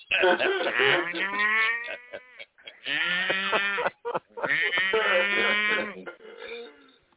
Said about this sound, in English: That's right. That was a moo-moo-moo.